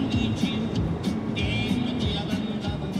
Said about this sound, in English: Is that the car radio there? Yeah, that's Norteña music. It's typical of that region.